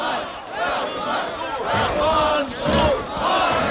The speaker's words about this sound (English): Clad in black, … pumps his fist along with the crowd's chants.